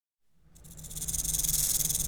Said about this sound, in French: Qu'est-ce qui se passe, mon ami? Sommes-nous en danger? Non, reste calme. C'était juste un serpent qui voulait me mordre.